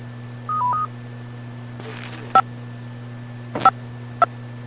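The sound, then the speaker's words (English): Radio repeater control tones sent as Central Carolina Skywarn goes into standby mode after a Wake County storm warning was canceled: a quick stepped run of beeps, then three short touch-tone-style bursts spaced apart, all over a steady low hum and faint static. “And bringing down the tones.”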